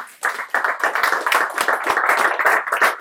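Steady applause from a group, dense overlapping claps with sharp individual hand strikes standing out, sustained at a fairly loud level for about three seconds with no voices.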